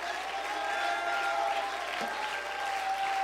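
An audience in a church sanctuary claps their hands in praise to God in a steady, dense wash of applause, loud and continuous throughout, with a sustained tonal hum underneath and no clear speech.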